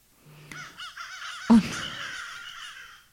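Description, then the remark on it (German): A crow caws in a harsh, raspy series of calls, with one especially loud, rough caw in the middle, then trailing, fainter croaks; no one speaks. “Ich habe noch eine Krähe.”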